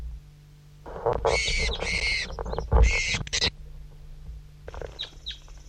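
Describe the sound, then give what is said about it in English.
Birds chirp, one of them identified as bird 5-3: a run of loud, harsh, high-pitched bursts for a couple of seconds, then after a short pause a few fainter, quick chirps over a low steady hum. “That was one chirp by him and then some by 5-3.”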